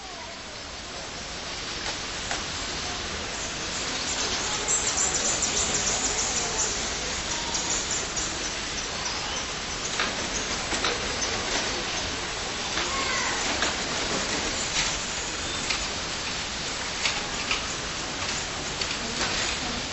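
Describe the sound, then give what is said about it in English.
A bird sanctuary soundscape: a steady wash of water fills the scene, with occasional faint bird chirps and light clicking sounds from an electric cash register scattered throughout. “And there is a bird sanctuary with birds and water, only slightly marred by the clicking of an electric cash register.”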